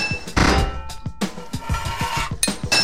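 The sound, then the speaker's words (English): Quick succession of sharp metallic hammer strikes fitting a metal pipe, each clank leaving a brief ringing tone; fairly loud and irregularly paced, with no voices. “Four hits of your hammer to fit a pipe.”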